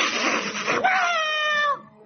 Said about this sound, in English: Somewhere, an alley cat screeched as it pounced on its rodent supper.